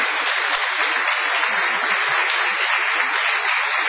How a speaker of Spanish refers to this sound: Prolonguemos nuestra ovación para honrar a Patricio Barton.